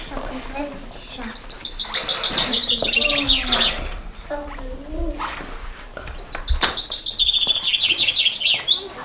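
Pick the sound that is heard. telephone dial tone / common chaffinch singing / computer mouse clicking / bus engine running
common chaffinch singing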